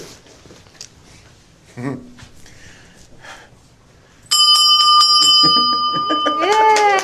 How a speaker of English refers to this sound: And we got great news about White Sox pitcher Liam Hendricks. You remember on April 5th, he played some sound of him ringing the bell as he got out of cancer treatment.